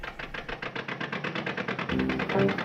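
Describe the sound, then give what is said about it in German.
A car engine runs steadily with a rapid, regular pulsing chug, moderately loud, growing slightly louder and rougher near the end, as the car is driven across Germany and used to test new synthetic lubricating oils. “fährt unverdrossen mit seinem geliebten Wagen quer durch Deutschland.”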